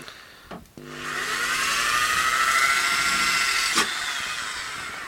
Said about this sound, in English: First of all, we'll start with a clean up. And what I do, I've got a drill with a wire wool, and we'll just run that over the whole of the hoe.